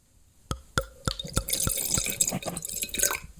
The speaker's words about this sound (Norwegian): Og jeg får helle litt i glasset da.